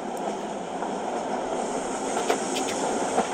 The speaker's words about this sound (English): Train sounds. T-R-A-I-N. Train. Ooh, train sounds. Here we go. Hold on a second. This is going to be good. Relaxing train journey, 10-hour video with soothing sounds for relaxation.